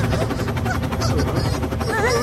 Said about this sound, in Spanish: ¿Qué pasa? Un helicóptero.